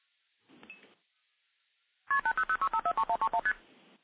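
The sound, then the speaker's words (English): A rapid string of about a dozen telephone multi-frequency signaling tones, each a short two-pitch beep in quick succession, loud over a phone line after a brief fainter burst and a pause. “So we hear some MF digits, and now we'll hear constant ringing.”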